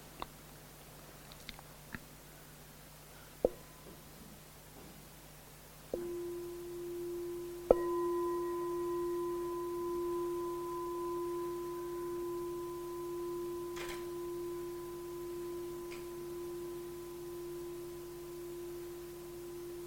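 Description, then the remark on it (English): A meditation bell sounds after a few soft clicks, then is struck once more, its low, steady ring swelling with a gentle wavering shimmer and sustaining unbroken to the end. “I'm going to offer a bell.”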